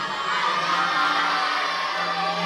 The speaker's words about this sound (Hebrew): בואו נשמע מי צועק הכי חזק שאפשר.